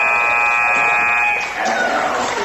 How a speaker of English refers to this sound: Buzzer sounds, end of the first half.